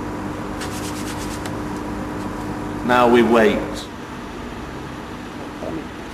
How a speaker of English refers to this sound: Now, I'm plugging in the kettle. I'm switching it on. At the plug, and now I'm switching it on at the kettle.